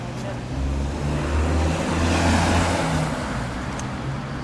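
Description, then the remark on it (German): A single car drives past on a quiet, small side street in north London shortly after 7 a.m., its low engine rumble swelling to a peak midway through and easing off again as it moves away. “Bis auf einzelne Jogger und ein paar Autos hört man nichts.”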